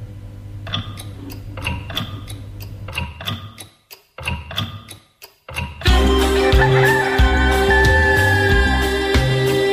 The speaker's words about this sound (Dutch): Maar luister, nu komt de klok er zo aan. Als je nog even wacht, dan hoor je hem.